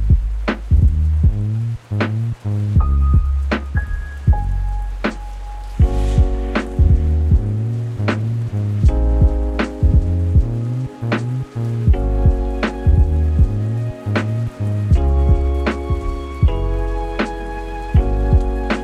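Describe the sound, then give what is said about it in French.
A soft lo-fi music track with mellow harmonic chords and sharp percussive clicks, layered over a light, steady patter of rain that hisses gently underneath throughout. “C'est texturé, la petite pluie derrière.”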